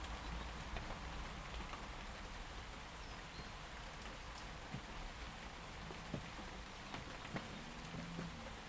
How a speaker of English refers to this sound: It's actually very pleasant to listen to the rain. In fact, so nice this morning when I did get up out of bed and I was making my porridge in the kitchen. I opened the back door full so I could hear the rain outside.